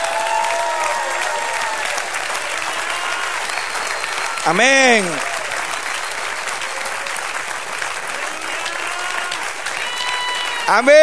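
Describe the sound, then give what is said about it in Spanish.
A church audience claps in praise to God in a sustained wash of applause, with voices calling out over it and a brief sung or shouted exclamation rising in the middle. “Dale aplauso.”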